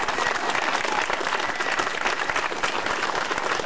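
A crowd at a rally applauds the people who stood up for the community, many hands clapping in a dense, continuous patter that stays at an even, fairly loud level throughout, with no voices standing out.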